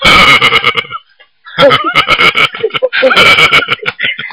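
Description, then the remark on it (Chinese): A voice imitates the burping of someone who has eaten too much: three loud, rough, croaky bursts of belching noise, the first two separated by a brief silence, the last trailing off into shorter gulping sounds. “好了，明明吃的太饱了，他一打嗝，你还以为菩萨来了呢。”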